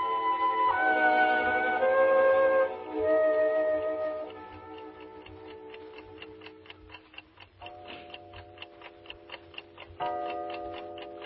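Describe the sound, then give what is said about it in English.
A clock ticks steadily after a fading, ringing chime, then strikes two o'clock with two resonant bell-like tones spaced a couple of seconds apart, the ticking continuing underneath. “Two o'clock.”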